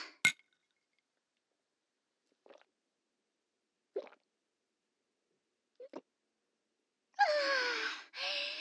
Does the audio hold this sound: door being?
no